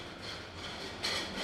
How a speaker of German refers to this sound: Der Geschirrwagen mit dem Mittagessen klappert vorbei.